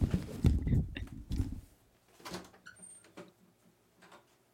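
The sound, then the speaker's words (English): A door opens in a stock sound effect: a low rumbling scrape for over a second, then a few sharp clicks and knocks that fade out. “That was such a stereotypical door noise.”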